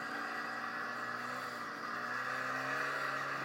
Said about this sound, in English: Oh. What's that noise? Is someone mowing their That would be... the... Diffuser? That, no, that's a weed whacker in our front yard. A weed whacker. Oh, someone's outside weed whacking. Yes. That's great, because it's so loud.